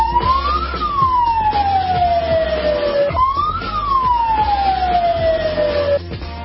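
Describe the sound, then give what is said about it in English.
A loud siren in Libya wails in two long cycles, each pitch rising quickly then gliding slowly down, over a steady low rumble of traffic with no voices. “A familiar sound in parts of the Middle East, specifically that siren in Libya, heard all over the place.”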